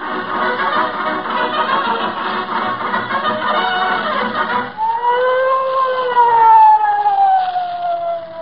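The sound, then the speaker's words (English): A police siren, sounded by an officer approaching the scene of a crime, wails loudly, starting with a dense, rapid warbling tone and then shifting into a long, slowly rising and falling wail, with no voices over it. “What's the idea of sounding the siren, Officer Mahoney?”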